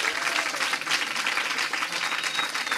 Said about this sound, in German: Noch mal bitte einen fetten Applaus für die drei, dass sie hier dabei waren.